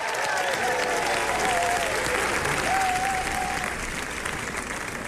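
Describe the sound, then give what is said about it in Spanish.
A crowd applauds steadily for about five seconds, a dense, continuous patter of many hands clapping at even loudness, with a faint whistle or cheer rising above it now and then. “Y entonces sí, mereces un aplauso.”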